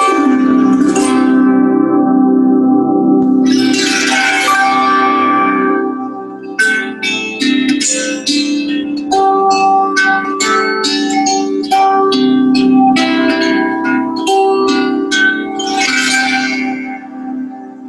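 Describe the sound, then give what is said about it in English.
A reverie harp is strummed and plucked, its bright strings ringing into long, shimmering overlapping tones that swell and fade in gentle waves, with no talking. “One of my favorite instruments to work with in the sound immersion is a reverie harp.”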